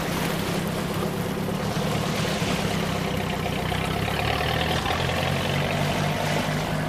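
A motorboat engine pulls away near midnight, droning steadily with a deep, throbbing low rumble, mixed with water wash and a faint hiss. It stays fairly loud throughout, with no voices.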